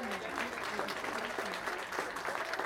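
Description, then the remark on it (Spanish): A crowd applauds musicians steadily, a dense wash of many hands clapping at once that stays loud and even throughout, with faint voices mixed into the clapping. “Un aplauso para nuestros músicos.”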